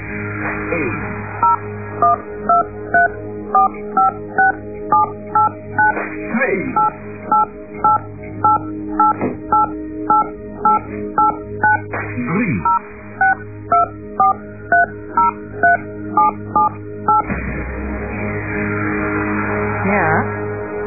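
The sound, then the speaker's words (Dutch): Three runs of rapid telephone keypad tones, each a quick, evenly paced series of short beeps dialing a phone number (one the listener's own number, two false ones), separated by brief pauses and played clearly over a faint background hum. “Ik wil van jou horen, wat is jouw telefoonnummer? Is op 1, 2 of 3?”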